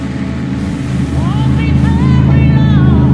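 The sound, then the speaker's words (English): A racing motorboat with a catamaran-like hull, being steered out at sea, drones steadily and loudly, its pitch whining upward as it revs, with a faint wash of water beneath the continuous roar. “Later, out at sea, Sonny steers the boat.”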